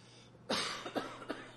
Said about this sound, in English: Apologize for this cough.